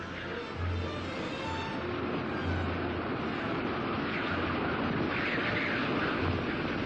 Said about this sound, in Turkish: Kış aylarında ısı -50 dereceye düşer. Rüzgar saatte 100 kilometre hızla buz ve kar savurur.